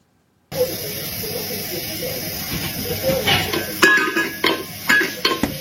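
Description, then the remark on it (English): A cat kicks and bangs its food dish about on a hard floor because it wants to be fed, giving several irregular clanks and scrapes that grow busier toward the end, over a steady background hiss. “Just kicking his dish.”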